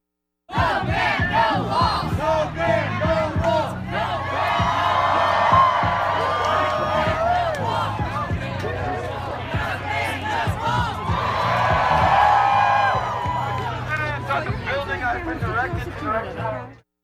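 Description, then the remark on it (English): A crowd of roughly 1,000 protesters, assembled at the Showers Building in Bloomington on a Sunday to protest the ban, chants in loud, rhythmic unison, voices rising into swelling cheers and shouts that peak twice before the chanting resumes, steady and energetic throughout. “This is audio that was recorded of the group assembled at the Showers Building.”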